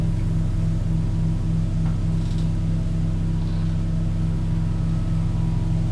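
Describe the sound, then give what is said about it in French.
The motor engine of an old barge, running again after breaking down, drones loudly and steadily, its low rumbling hum running unbroken for the whole stretch with no one speaking. “Le moteur, on est tombé en panne. Comment allons-nous faire ? Le monsieur va voir pour le moteur.”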